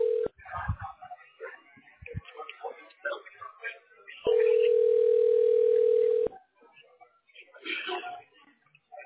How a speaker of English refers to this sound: Ringing. It's ringing. Still ringing.